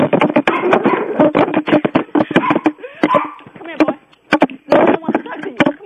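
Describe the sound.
A dog barks in repeated sharp bursts, the barking mixed with people talking over it throughout.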